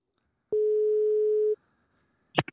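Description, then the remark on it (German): A telephone ringing tone sounds once as a call is placed: a steady, mid-pitched hum lasting about a second, then silence and a couple of brief clicks. “Dann machen wir mal meinen Anruf und dann horchen wir mal, wer rangeht und ob jemand rangeht.”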